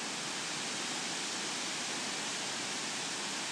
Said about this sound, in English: Wind and rain. Ooh. And it's still off to the west and north. And this could get good.